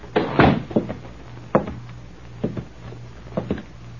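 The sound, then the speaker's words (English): A man closes the door of a bank in Morriston with a solid thud, followed by several softer knocks and clicks of the latch settling, over a faint low hum with no voices. “They exchanged nods, and apparently satisfied, the man closed the door.”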